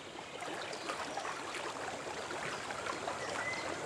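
Steady rushing river water flows continuously throughout, an even wash of noise like water running over rocks, with no voices present.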